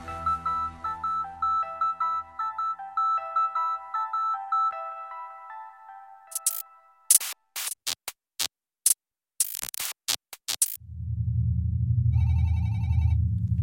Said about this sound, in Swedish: Telefonen ringer hos bevakningsbolaget i Göteborgs hamn.